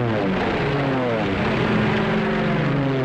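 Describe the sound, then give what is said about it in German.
A loud, steady droning of propeller bomber engines as 521 English aircraft approach the city of Nuremberg, Germany, on a crystal-clear night, the throbbing hum holding constant throughout, with no other sounds breaking through. “Die Chance, in Nürnberg zu überleben, als sich 521 englische Flugzeuge der Stadt nähern, ist gering.”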